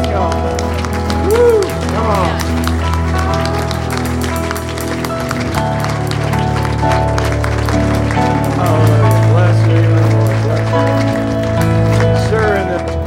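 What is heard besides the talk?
audience applause and cheering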